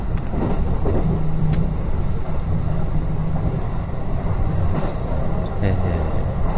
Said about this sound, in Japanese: 今はですね、これ、もう夜中の、琵琶湖線ですね、京都から彦根に向かう琵琶湖線の中でお送りしております。電車に乗って喋るのはちょっと迷惑なんですけども、幸いも夜中でね、全部にほとんどお客さんがいなくて、